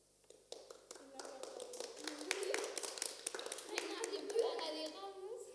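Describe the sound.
A burst of applause for the student announcers and technicians of the first two Radio Cervangunis teams, many hands clapping in a dense, irregular patter that swells and holds steady for several seconds, with a few children's voices mixed in.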